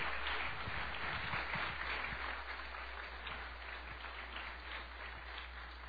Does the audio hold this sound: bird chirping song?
no